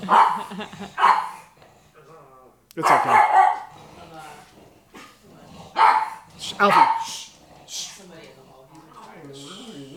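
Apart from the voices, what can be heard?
dogs barking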